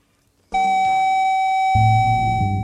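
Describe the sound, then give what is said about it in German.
After a brief silence, a high-pitched electronic beep tone from a head-cleaning CD starts abruptly and holds steady and loud, with a low droning hum joining underneath partway through. “Sobald Sie die hohe Piepstimme hören, stellen Sie die Reinigungs-CD bitte auf Lauf Nummer 10 ein.”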